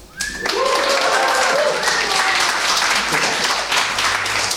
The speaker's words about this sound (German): Vielleicht können wir noch mehr jubeln nach der Taufe.